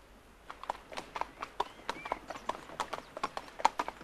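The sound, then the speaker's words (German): Horse hooves clip-clop at a steady walking pace as riders travel along a river, a regular run of sharp knocking hoofbeats, moderately loud, with no voices. “Sie reiten entlang eines Flusses, der in diesem Tal, angeschwollen vom Schmelzwasser aus den”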